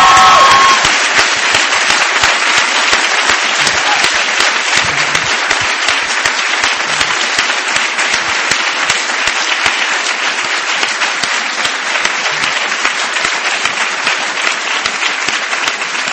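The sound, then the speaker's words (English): Sustained applause from a large graduation audience of the class of 2013, acknowledging their families, friends and parents. It is a dense, steady wash of clapping lasting about sixteen seconds at an even loudness, with no one speaking over it. “So I'd like to ask the class of 2013 to now acknowledge your family, your friends, your mothers and fathers, and anyone that's helped you along the way with a round of applause.”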